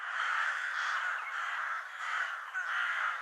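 Harsh crow caws overlap one another in a steady, loud chorus, several birds calling continuously and close together with no pauses and no talking.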